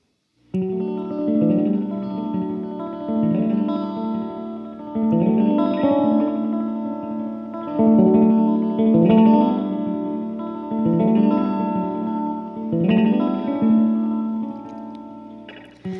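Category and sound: song played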